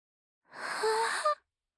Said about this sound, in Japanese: はぁ、はぁ、ごめんね、ついあくびが出ちゃった。こうしていたら眠くなってきちゃって。